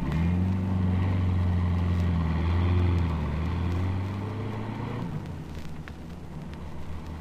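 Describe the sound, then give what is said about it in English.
A car engine hums steadily, a low rumbling drone, then eases off and fades as the car is driven about 50 yards down the street, leaving softer background noise. “you take the car down the street about 50 yards and sound the old horn again if anything looms up.”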